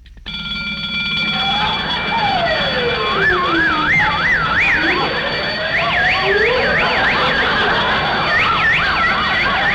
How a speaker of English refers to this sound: I forgot to turn off the alarm.